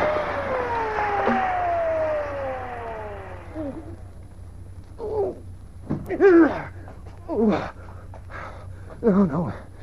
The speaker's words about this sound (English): Oh, come on, car, come on. Don't let me down now.